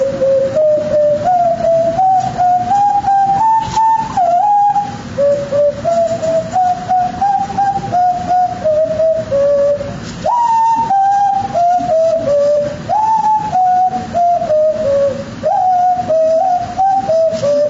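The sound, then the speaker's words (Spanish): A breathy indigenous wind instrument plays a sustained, fairly loud tone, bending its pitch in small microtonal slides, then stepping up and down through a scale of distinct notes, with no talking. “Puedes subir y bajar el sonido microtonalmente, ¿sí? O también podemos hacerlo a manera de escala, ¿no?”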